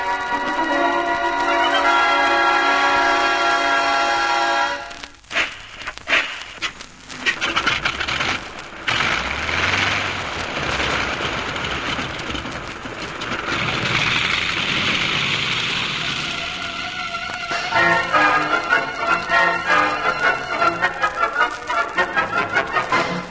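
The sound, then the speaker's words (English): A heavy downpour with rushing, howling wind from a storm over the semi-arid island of Inagua in the West Indies surges loudly for several seconds, framed by stretches of music before and after the storm noise. “caught in the downpour and are fighting their way against the howling wind”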